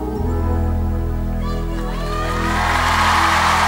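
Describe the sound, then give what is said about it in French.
A song's last sustained chords ring out, then audience applause swells in and builds steadily over the fading music, turning into a broad wash of clapping by the end. “Pas tant d'applaudissements pour moi-même.”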